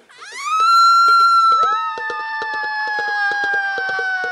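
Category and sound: human body sound, woman screaming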